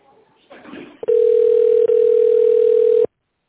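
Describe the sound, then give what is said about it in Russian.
A loud, steady telephone ringback tone hums at one pitch for about two seconds, with a tiny break midway, while a call is being connected to a specialist, after a short stretch of faint muffled noise and rustling. “Please wait while we connect your call.”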